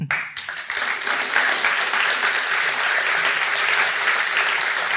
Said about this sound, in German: Und ich finde, das wäre mal auch einen Applaus wert für die Schweiz mit Herz.